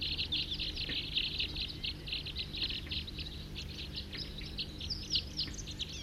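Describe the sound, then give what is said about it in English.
A big flock of about 40 wild birds calls loudly and continuously, many overlapping high chirps and twitters forming a dense chorus over a steady low rumble, with no one talking. “Here comes a big flock of about 10, 40 on the side here, calling loud, pointed at the wild birds.”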